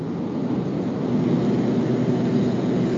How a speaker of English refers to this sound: Sounds like we're in the car wash. Yeah, over by that jet dryer.